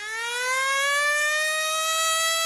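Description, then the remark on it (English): A loud, sustained siren tone marking quiz time rises slowly in pitch and then holds steady, rich with harmonics, sounding on its own with no talking. “That siren means it's quiz time,”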